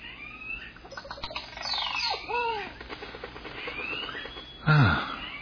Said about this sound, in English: Oh, that's some bird they've recorded. Certainly is peaceful.